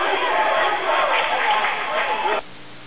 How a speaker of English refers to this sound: and you hear a nice round of applause by the Kearney High fans as they force the turnover.